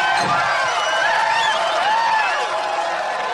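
A large crowd cheers and whoops loudly, many overlapping voices rising and falling in a steady, dense roar that fills the whole few seconds.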